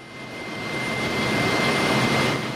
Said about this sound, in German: Der Lärm in der riesigen Fabrikhalle ist ohrenbetäubend. Ein scheinbar endloses Papierband läuft um verschiedene heiße Zylinder und wird so getrocknet.